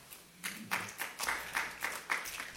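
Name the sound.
audience applause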